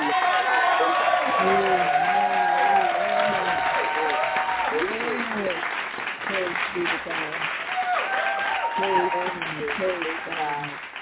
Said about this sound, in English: So we're going to welcome her with a hand clap praise.